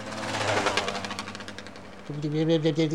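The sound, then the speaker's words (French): A voice imitates a two-stroke engine with a continuous, buzzy, rattling drone that steps up to a higher, stronger pitch for the last second. “Un bruit de casserole un peu, le deux temps, quoi.”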